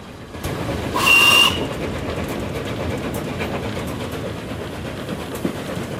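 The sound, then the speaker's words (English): The A3 steam locomotive Flying Scotsman hauls its line of carriages along a stretch of track on an elevated embankment, emerging from behind trees, with a steady, loud rumble and chuffing throughout; a short whistle blast sounds near the start. “Pulling its line of carriages, the Flying Scotsman emerges from behind trees on a stretch of track that's set on an elevated embankment.”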